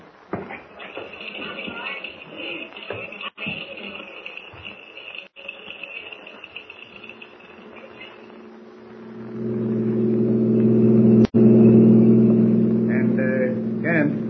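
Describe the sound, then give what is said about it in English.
Outdoor insect chirring and faint shuffling give way to a car engine that starts up and swells into a loud, steady rumble, holding strong through the end. “It'll take us an hour to get there. I'm ready. We'll take my car.”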